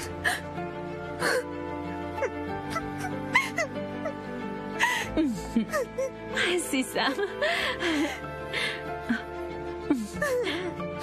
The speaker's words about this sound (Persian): گریه نکن.